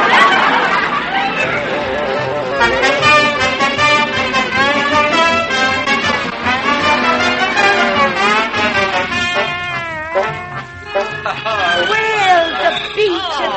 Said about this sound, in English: Yeah, there's a big crowd, too.